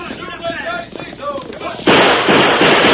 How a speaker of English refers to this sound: I'll fire a few shots to make them think I'm trying to stand them off.